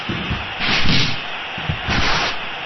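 Ball-kick sound effects from the arcade football game Super Sidekicks: a simple dribble from the kickoff whistle sounds like several hard shots on goal, a series of punchy, hard thuds in an uneven rhythm with short hissing bursts rising between them, loud.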